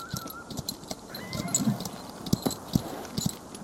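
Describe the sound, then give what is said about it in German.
Horse hooves clip-clop in a loose, uneven rhythm, a handful of distinct hollow clops growing clearer toward the end, set against a steady outdoor background hiss with no talking. “Die Pferde lassen wir besser hier.”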